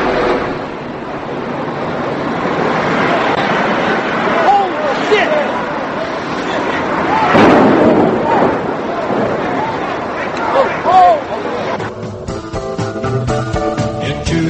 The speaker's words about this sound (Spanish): Era el sonido de uno de los impactos de los aviones contra las Torres Gemelas.